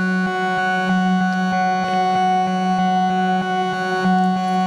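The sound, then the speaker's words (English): A sustained, droning tone from a Microcosm effects pedal with the mix turned all the way up and reverb added, rich in overtones, steady and loud throughout, with faint rhythmic ticks pulsing through it. “I can add reverb.”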